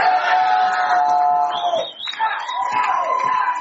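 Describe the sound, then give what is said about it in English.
A crowd packed to capacity in the Roanoke Bar in Seattle roars loudly and continuously as the clock winds down on Super Bowl 60, a dense wall of cheering and shouting voices that dips briefly before swelling again. “As the clock wound down on Super Bowl 60, a roar went up at the Roanoke Bar in Seattle, one of many packed to capacity across the city.”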